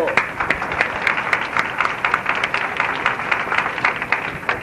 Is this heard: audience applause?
yes